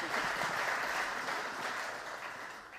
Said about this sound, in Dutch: Geef er even een applaus.